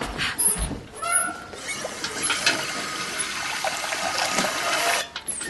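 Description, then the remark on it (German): Water gushes steadily from a tap into a container for several seconds, fetching fresh drinking water for horses, a hissing splash with a brief clunk near the start and a short break toward the end. “Warte, ich hol Wasser.”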